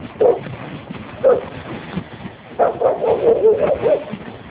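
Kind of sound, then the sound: animal, neighbor's dog barking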